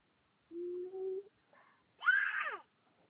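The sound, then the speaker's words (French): A baby cries in two short bursts: first a low, steady whine, then a sharper, higher wail that rises and trails off, with no talking. “Il y a le bébé, d'accord.”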